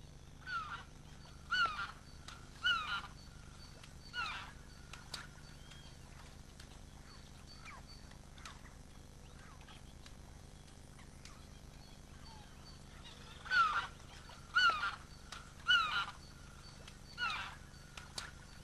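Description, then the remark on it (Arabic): Loud, trumpeting calls of Manchurian cranes ring out in two clusters of short, repeated bursts separated by a quiet stretch, with a faint outdoor background hum and no voices. The call can be heard from about a kilometre away. “وله صوت نداء عال يمكن سماعه من على بعد كيلومتر تقريبا.”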